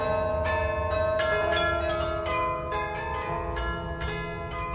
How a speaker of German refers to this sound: Hörst du? Das ist das Glockenspiel